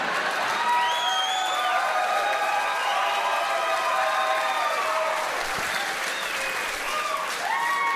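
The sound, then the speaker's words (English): An audience applauds a joke by comedian Brad Williams for the full eight seconds, a dense, loud wash of clapping with scattered whoops and cheering voices rising over it. “Thanks for applauding my mother's mutilated vagina.”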